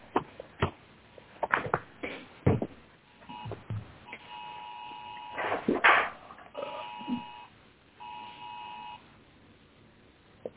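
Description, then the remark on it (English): A series of steady electronic beeps sounds in short bursts, each a sustained two-tone pulse, amid intermittent clattering and shuffling noises during a court appeal hearing; fairly quiet overall, with no clear speech. “I heard beeping.”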